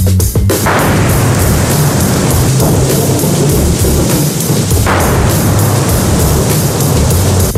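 Heavy autumn rain pours down in a steady, dense hiss, with a deep rumbling undertone running throughout. It stays loud and unbroken, with no voices.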